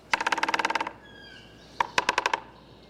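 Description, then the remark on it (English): Rapid red-bellied woodpecker pecking: a quick burst of about a dozen sharp, even taps, a short pause with a faint thin whistle, then a second, shorter run of crisp knocks. “I drew the red-bellied woodpecker on a tree. It's standing on a tree, and it's about to peck.”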